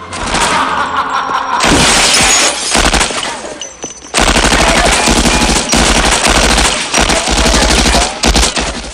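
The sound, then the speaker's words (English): Loud bursts of rapid Tommy gun fire, sprayed into the darkness, rattle continuously with only brief pauses, mixed with sharp crashes that sound like shattering glass as street lamps are smashed and a car is shot up. No voices. “Once it's empty, he runs to the car and grabs a Tommy gun.”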